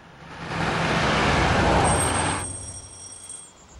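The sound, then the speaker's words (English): A car driven by Vera speeds along a winding country road, rushing past with a broad roar that swells over about two seconds, then fades into a lower engine hum with a faint high whine lingering after. “Vera speeds along a winding country road.”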